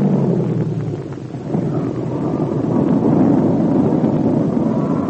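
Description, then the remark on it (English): A propeller airplane engine drones steadily in flight, a loud, continuous roar with a rough, rumbling low end and a windy hiss, swelling slightly toward the end; the motor is not running cleanly. No voices. “If this motor would clear up, I could have fun, but not this way.”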